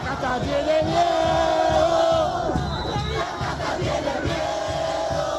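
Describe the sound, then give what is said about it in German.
A large crowd of Javier Milei's supporters yells and chants in unison at a rally, loud and sustained, with a rising sung tone held for a couple of seconds before the voices break into rhythmic shouting of 'Die Kaste hat Angst' (the caste is afraid). “Die Kaste hat Angst, johlen seine Anhänger.”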